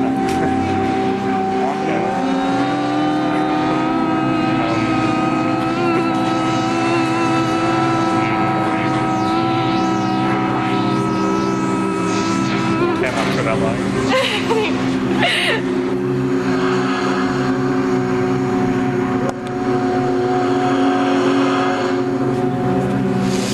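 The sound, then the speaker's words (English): Several voices humming together in the Drake, a steady, droning chord with sustained tones held for over twenty seconds, slight pitch shifts partway through, fairly loud and continuous. “Would you like to join me in a hum? Sure.”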